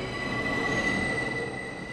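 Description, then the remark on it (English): A New York City subway train rumbles steadily along the rails, a constant loud roar with a thin, high metallic squeal of wheels running through it, with no voices. “Many New Yorkers take the subway to work.”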